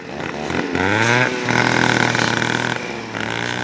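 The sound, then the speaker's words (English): Loud small-engine whine from high-powered brush trimmers revved by a work crew clearing brush in a community on the Peavine Mountain foothills in Reno, rising and falling in pitch as they rev up and throttle back several times, with steady buzzing harmonics throughout. “In a community nestled on the Peavine Mountain foothills in Reno, a work crew is revving up brush clearing tools.”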